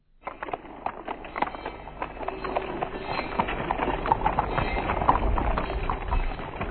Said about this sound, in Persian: صدای زنگ و قدم های کاروان